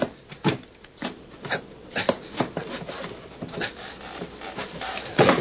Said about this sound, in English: I'm going to try to open the trap door.